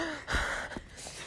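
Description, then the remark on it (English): Heavy, breathy exhalations, roughly two rough bursts of air, with a short pause between them and no talking. “It was just going to be a segment of loud ass breathing.”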